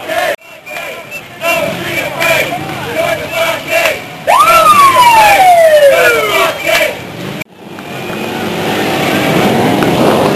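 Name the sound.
motorcycle engines revving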